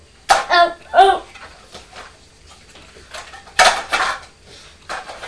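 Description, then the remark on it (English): Plastic yoghurt pots clatter and knock together in a few short, uneven bursts of handling, with brief vocal sounds mixed in between the rattles. “We've got lots of yoghurt pots in here.”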